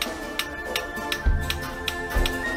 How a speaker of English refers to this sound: Coppersmiths have mastered the art of creating products out of single sheets of copper by using a hammering technique alone, without the use of soldering or welding. With each bang of the hammer, as the copper is shaped, a decorative pattern emerges.